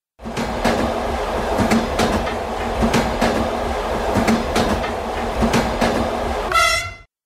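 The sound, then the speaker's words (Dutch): A train rolls steadily along the rails with a rhythmic clickety-clack of wheels over joints, loud, and a brief horn sounds at the very end. No one speaks. “En van de ene trein gaan we naar een andere, en wel in Rusland.”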